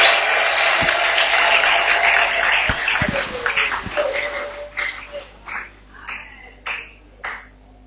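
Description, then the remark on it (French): A crowd applauds the preached word in a dense, steady burst of clapping that thins after a few seconds into a handful of scattered, separate claps before fading out. No one speaks. “Applaudissons pour la parole.”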